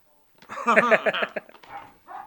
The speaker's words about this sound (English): Where's my baby? She's locked in the room. I have to, or she barks, mother. And you can't let her out unless you take her right into your room.